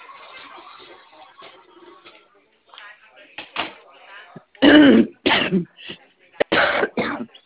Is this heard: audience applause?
no